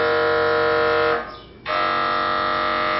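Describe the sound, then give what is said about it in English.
An MRI machine scanning: a loud, harsh electronic buzzing drone rich in overtones, briefly dropping and thinning midway before resuming at full strength. No voices. “If you've ever had an MRI, this noise is probably not a comforting one.”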